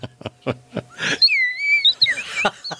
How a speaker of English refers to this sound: She's... still going. We have birds in the studio.